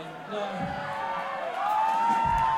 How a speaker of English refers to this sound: They cheer because they have a bet going. Some of them have wagered that I can tell a story that lasts for 30 minutes and clears the room.